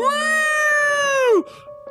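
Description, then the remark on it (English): A single long, steady whale call, loud and reedy with rich overtones, holds one pitch for over a second, then bends sharply downward and cuts off, leaving faint rustling. “Was that a whale sound?”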